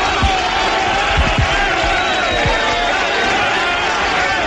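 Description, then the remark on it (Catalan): Unió Esportiva Figueres football players, huddled at the centre of the pitch around Pere Gratacós after the final whistle of their 1-0 Copa del Rei win that eliminated Barça, shout and cheer in celebration, a loud, continuous mass of overlapping voices with a few low thumps early on. “Crits dels jugadors de la Unió Esportiva Figueres, que estan votant als voltats de Pere Gratacós, que està, com us podeu imaginar, eufòric com la resta de l'equip, celebrant molt aquesta...”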